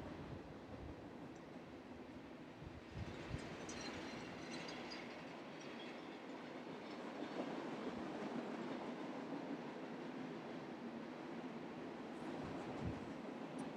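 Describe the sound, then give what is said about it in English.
A train rumbles steadily past, its continuous roar and rattling wheels filling the whole stretch, loud, with faint metallic squeals riding on top and no voices. “Train is still going.”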